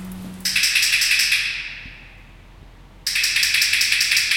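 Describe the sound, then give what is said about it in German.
A keeper pulls a metal sliding hatch for lions open with a bright, hissing scrape that fades, then after a short lull it scrapes loudly again as it shuts, signalling the lions to come in. No voices. “zieht der Philipp Spindler die Schieberklappe auf und zu, damit die Löwen hören, dass sie reinkommen sollen. Und dann gibt er mit einem Klicker ein Signal”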